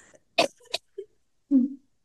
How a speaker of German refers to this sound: oh, jetzt muss ich husten, Entschuldigung.